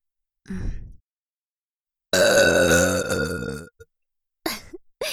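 A long, loud, croaking burp rings out close up for over a second, preceded by a short breathy gulp and followed by a brief exhale.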